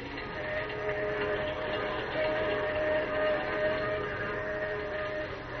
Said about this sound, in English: As the train roars into the night, he and Manfred talk softly outside the door of Lois's dressing room.